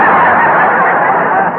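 A loud, harsh bird honk, like a goose, blaring nasally in one sustained call lasting under two seconds, with no voices around it.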